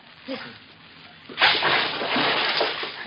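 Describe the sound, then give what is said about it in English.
After a quiet moment, a man jumps out of a boat into the water with a sudden, heavy splash, followed by loud, continuous sloshing and churning that lasts to the end. “He jumped out of the boat.”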